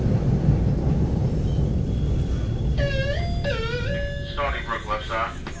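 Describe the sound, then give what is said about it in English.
A train door closing at Stony Brook gives off a loud, wavering high-pitched whine that bends downward, then breaks into a rapid pulsing warble, all over a steady low rumble. “That's the worst sound ever made by any train.”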